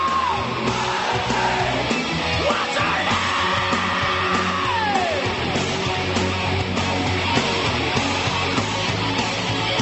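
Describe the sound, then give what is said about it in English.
A man yells loudly and repeatedly in a comedy recording, his voice rising and falling in long strained glides, over a dense, noisy background of crowd-like din that continues throughout. “Amazingly, we're not at the actual Scream that put this on the list yet.”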